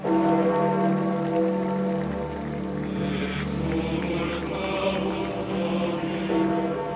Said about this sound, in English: Bells rang and people applauded as the procession made its way through St. Peter's Square, led by Cardinal Kevin Farrell